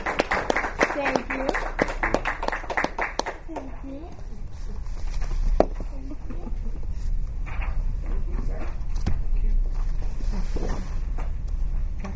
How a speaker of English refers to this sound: So you can give them a round of applause because they're pretty amazing. Congratulations.